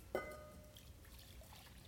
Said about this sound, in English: And he poured water into a basin.